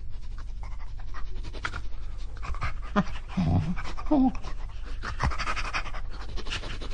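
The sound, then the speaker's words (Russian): A dog, Bim, sniffs along the edges of a paper letter and pants steadily over a constant low hum, with a couple of brief higher whimpering sounds in the middle and soft papery rustling throughout. “Он уткнул нос в письмо, прошелся ноздрями по краям.”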